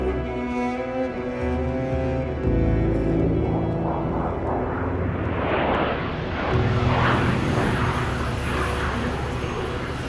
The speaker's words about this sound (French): Il est presque midi, mais un Boeing de la compagnie israélienne El Al traverse la piste.